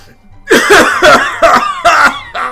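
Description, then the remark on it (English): Five loud, forceful nasal sniffs at a bag of manure in a steady rhythm, each a short harsh burst of air, with no talking. “Sniffing a bag of manure won't get the job done.”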